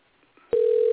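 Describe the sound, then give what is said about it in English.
A quiet stretch, then a sharp click and a loud, steady low-pitched telephone tone of a phone call to the Diamonds Hotline that holds without a break to the end. No one speaks. “And we could settle that both right now by this phone call.”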